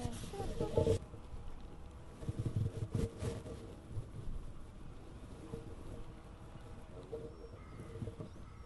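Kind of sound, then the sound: nature, wind blowing outdoors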